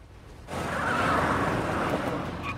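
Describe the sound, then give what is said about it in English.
A car rolls in loud, with a broad rush of road noise and a thin tire squeal as it brakes to park outside an apartment block, no voices. “Before Muntz is barely parked, Ash jumps out of the car and runs to his apartment.”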